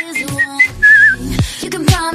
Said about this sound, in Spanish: Es que aparte del silbido del principio que no me sale...